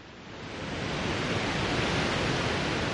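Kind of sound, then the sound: nature, waterfall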